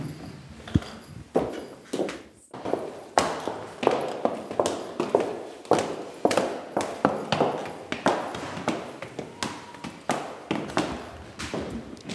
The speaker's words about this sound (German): Ja, da gehen wir in die zweite Etage, gehen wir aus dem Erdgeschoss nach oben in unserem wunderschönen Treppenhaus in die zweite Etage und da gehen wir ins Sprachlabor.